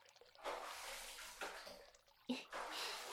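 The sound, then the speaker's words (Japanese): Fairly soft splashing water poured in a few successive gushes, rinsing soap foam off, like a shower rinse sluicing over skin, with a brief sharper splash partway through and no voices. “じゃあ泡を流すね。”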